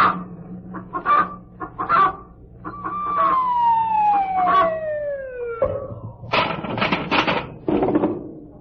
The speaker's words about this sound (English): And now for the correct time from Brenda, our pet hen.